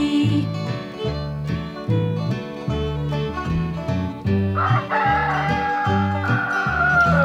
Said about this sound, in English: Fee-deedle-dee-deedle-dee-dee-dee, the rooster's talking to me.